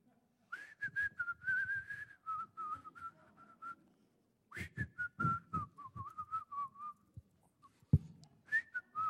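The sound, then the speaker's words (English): A person whistles a wandering tune while taking out the trash, with sustained pitched notes that rise and fall across two phrases separated by a short pause. “I was whistling the whole time.”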